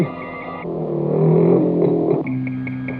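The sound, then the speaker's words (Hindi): A loud motorcycle engine revs up, its pitch climbing and holding before dropping back to a steady rumble as a man rides off on a friend's motorcycle. No one speaks. “देख मैं तेरी मोटरसाइकिल लेके जा रहा हूँ।”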